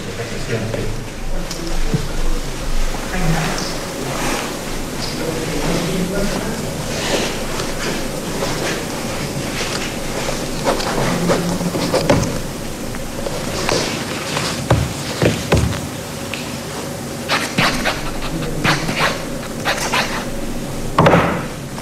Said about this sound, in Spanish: Brindamos un fuerte aplauso al nombramiento del nuevo. Acaba de ser nombrado Rodrigo Cerda, entonces en el Ministerio de Hacienda.